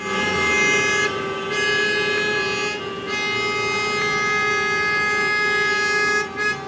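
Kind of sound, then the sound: vehicle, car horns honking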